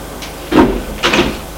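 Elevator doors sliding open on arrival at the basement, heard as two short, rushing mechanical swishes about half a second apart, moderately loud with a faint low hum underneath and no voices.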